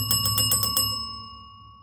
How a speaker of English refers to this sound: The bell came through nicely, by the way,